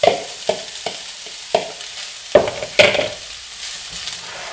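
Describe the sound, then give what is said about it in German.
Tofu is stirred into onion, sweet potato, carrot and zucchini sizzling steadily in a hot pan while a spatula scrapes and stirs in a series of sharp, irregular clacks, with no talking. “Jetzt kommt das Tofu mit in die Pfanne.”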